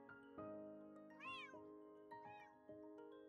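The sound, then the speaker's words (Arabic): A cat meows twice, each call a rising and falling wail, heard clear against a steady low musical drone, with no one speaking. “القطط هي موضوع هذه الحلقة.”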